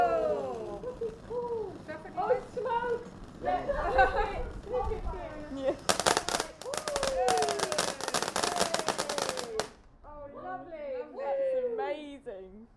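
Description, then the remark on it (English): Fireworks crackle in a rapid, dense burst of loud pops lasting a few seconds, while people keep talking and exclaiming before, during and after the display. “It's a bit like subtitle fireworks.”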